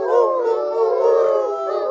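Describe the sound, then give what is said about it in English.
A man imitates an owl call, the father calling to an owl in a reading of the children's book Owl Moon, with a long, wavering hoot that rises and falls in pitch for about two seconds, steady and fairly loud. “What do you think they're waiting for? An owl.”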